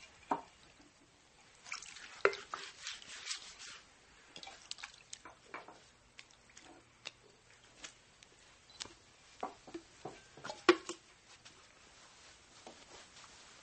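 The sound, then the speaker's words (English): Water is poured into a wash basin and splashes as feet are washed, a run of small, irregular sloshes and trickles, moderately quiet, with brief louder splashes scattered through. No one speaks. “Then he poured some water into a wash basin and began to wash the disciples' feet and dry them with the towel around his waist.”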